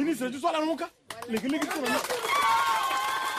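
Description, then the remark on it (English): A voice speaks over a short pause, then villagers in Nanagribizi break into steady applause and cheering for a speech by a Touadéra campaign worker, filling the rest of the moment, loud, with voices still audible through it. “These villagers in Nanagribizi, a district still plagued by sectarian violence, applaud this speech from a Touadéra campaign worker.”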